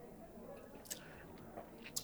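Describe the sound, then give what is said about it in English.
A quiet sip of an Islay whiskey: a few brief, soft wet mouth sounds and small slurping clicks spaced across a couple of seconds, with no talking. “The finish, I'm going to take another quick sip right now.”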